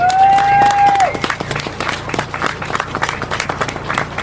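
An audience breaks into sustained applause, a dense, steady patter of many hands clapping for several seconds, with a brief held tone sounding over the start before fading.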